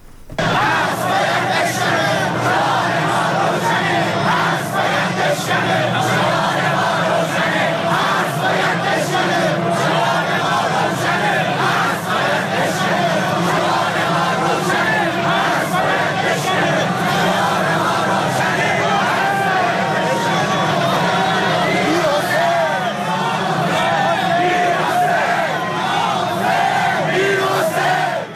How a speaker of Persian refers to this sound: در یک بخش دیگری از این مراسم، موقعی که تابوت آقای هاشمی رفسنجانی از خیابان عبور میکرد، بخش از مردم شعار میدادن که پیام ما روشن هست، باید بشکن. اشاره به حسر آقای کروبی و آقای میرحسین موسوی داشتن. بخش از این شعارها هم آماده است که میشنویم.